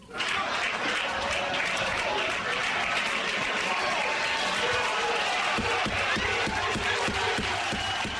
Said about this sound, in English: That applause went on for 30 more seconds while Reverend Wright stood back, literally flexing his muscles and giving military-style salutes to the crowd. And the moderator had to admonish the crowd twice to stop clapping.